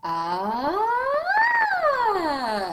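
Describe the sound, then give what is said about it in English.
A single voice slides smoothly from a low pitch up to a high peak and back down again, imitating a siren in one continuous, steady hum-like sweep. “I'll go from low to high to low. I'll ask them to do a siren.”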